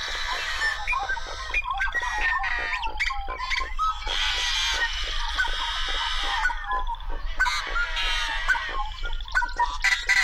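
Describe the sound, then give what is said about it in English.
A chorus of yellow-headed blackbird calls in a cattail marsh: harsh, buzzy, otherworldly rasps and clipped notes overlapping, with a steady low rumble of marsh ambience underneath. “Yellow-headed blackbirds just have sort of otherworldly sounds, and they're quite common in some of the cattail marshes.”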